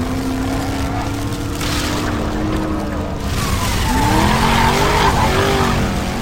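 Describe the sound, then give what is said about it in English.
A fast car roars loudly with a continuous engine drone while its tires squeal and skid in long, wavering screeches that rise and bend as it swerves. “Imagine yourself driving a very fast car. The car swerves, twists, and pivots as buildings collapse around you.”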